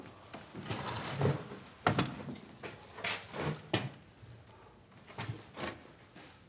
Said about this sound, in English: He crosses the room and sets a chair in an open spot on the floor.